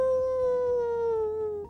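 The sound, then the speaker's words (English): A single drawn-out jackal howl, very close by, a clear tonal wail that slides slowly downward in pitch, holding strong for nearly two seconds before cutting off abruptly, with no voices. “Well, then all of a sudden, those jackal sounds got very, very close.”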